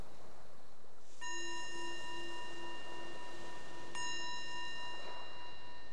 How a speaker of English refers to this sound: So the bell is the invitation to bring the awareness back to the surface, to your surroundings.